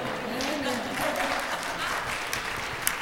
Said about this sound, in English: That ought to got a little applause there somewhere.